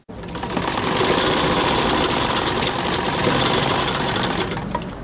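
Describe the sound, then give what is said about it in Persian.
A sewing machine in a small tailor's shop, where five apprentices are at work sewing men's clothing, runs steadily for about five seconds, a dense mechanical whir with rapid rattling stitches and a fast, even rhythm, fading in at the start and easing off at the end. “33 ساله در یک دکان کوچک خیاطی همراه با 5 تن شاگردش سرگرم کار است و لباس های مردانه می دوزد.”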